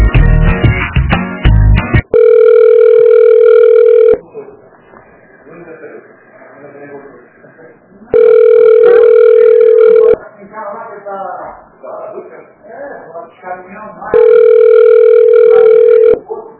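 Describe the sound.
A phone ringback tone of an unanswered call purrs three times, each steady buzz lasting about two seconds with longer gaps between, while faint muffled voices murmur in the pauses.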